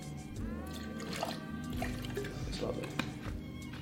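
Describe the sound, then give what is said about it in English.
Liquid glugs and trickles steadily as it is poured from a bottle into a container, continuous for a few seconds, with a voice murmuring in the background. “Let me just open that up for me. Yeah, so that's beautiful. Pour a bit of that.”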